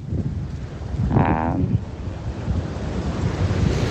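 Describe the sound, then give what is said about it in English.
Wind blowing outdoors in a city while someone walks a dog, a steady low roar buffeting the microphone with rumbling gusts throughout, plus a brief whining tone near the middle. No one speaks. “The wind in the city today is blowing. I'm sure you can hear.”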